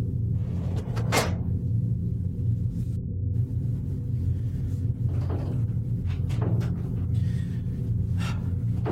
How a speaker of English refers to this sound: the door isn't opening. Just open the door. Just turn the knob and open the door. It's not. Open the door. Pull the door.